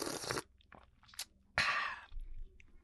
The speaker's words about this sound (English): I got to take a drink of water here real quick.